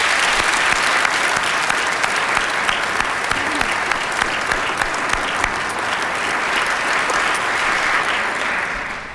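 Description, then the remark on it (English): A crowd claps steadily for about nine seconds, a dense, sustained round of applause for all the trivia teams through the years that stays loud and even before tapering slightly at the end. “Let's give all the teams of trivia through the years a round of applause.”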